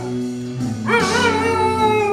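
A dog howls along to a song played on an Alexa device, its rising, wavering wail starting about a second in and holding loud above the steady tones of the song underneath.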